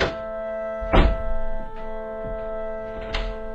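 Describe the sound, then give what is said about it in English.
A door, the first of many along the way, is kicked open with one heavy, booming thud, followed by a few softer knocks and bumps, all over a steady, sustained tonal hum. “We'll just kick the first one at hand, shall we?”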